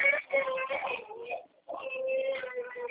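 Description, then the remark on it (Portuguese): A young son cries in two sustained, wailing bursts separated by a short pause, fairly loud, with no clear speech over it. “É que meu filho tá chorando.”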